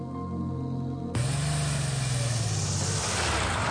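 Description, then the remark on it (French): A steady hum cuts abruptly to a loud, rough car engine roar whose low pitch sags and winds down over a couple of seconds, then drops out as the motor stalls and the car comes to a halt. “Sitôt qu'il entend le bruit de la voiture de monsieur Diakoumé, Marume Crando, le mort-vivant, se concentre et avec la puissance de son cerveau mort, il paralyse le moteur.”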